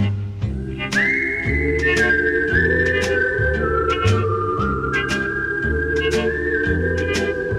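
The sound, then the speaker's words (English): A clear whistled melody glides between long held notes over a full band backing with bass and a steady, regular drum beat. No one speaks. “It's a whistling tune for walking in the night.”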